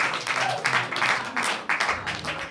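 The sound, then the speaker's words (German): Sustained audience applause greeting the visiting mayor, a dense wash of many hands clapping at a steady loud level, with faint voices mixed underneath. “Vollkommen zu Recht der Applaus.”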